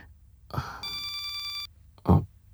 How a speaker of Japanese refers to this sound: この着信音は彼女の仕事よ。だとしたら僕が出てもそんなに問題ないよね。